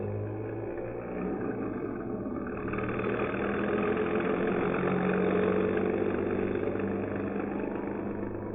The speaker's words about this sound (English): At 11:14 p.m. at the corner of University and Pryor Avenues, a bus driven by Ray Milligan of 1022 Cumberland Street, St. Paul, stops to let her aboard. Then it proceeds through stormy, inclement weather along Cleveland Avenue.